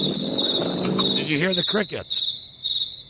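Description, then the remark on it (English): Recorded crickets being played back chirp in a steady, continuous high-pitched trill throughout, with muffled, indistinct voices and some low rumbling noise underneath during the first two seconds. “Do you know we were playing crickets?”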